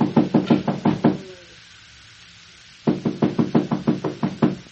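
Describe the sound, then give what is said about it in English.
Loud, rapid knocking on the locked door of a room: a quick burst of about six raps, a pause of nearly two seconds, then a longer run of around ten sharp, insistent knocks. “I'll try the door. Ah, it's locked.”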